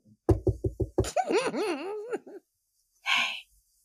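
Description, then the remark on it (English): Five quick, evenly spaced, crisp knocks on a door, followed by a sing-song vocal sound with wavering pitch and, after a pause, a short breathy exhale. “And then I just remember somebody politely knocking on the door.”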